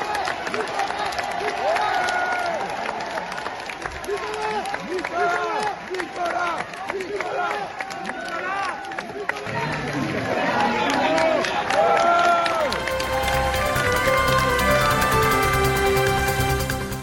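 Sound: supporters applauding and cheering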